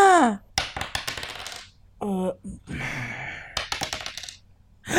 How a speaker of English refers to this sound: That's a pretty big move. We got to roll 2d6 to see where we are with that.